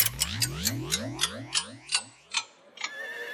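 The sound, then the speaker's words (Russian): An antique clock ticks loudly about eight times, the ticks gradually slowing, over a warbling, downward-sliding tonal whoosh that gives a rewinding, time-warp effect before fading into a faint hum. “Старинные часы. Время назад.”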